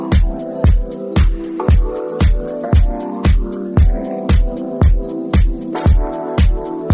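An upbeat pop-funk song plays loud, driven by a steady, punchy drum beat hitting about three times a second over warm, sustained instrumental chords.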